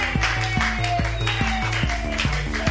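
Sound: audience clapping hands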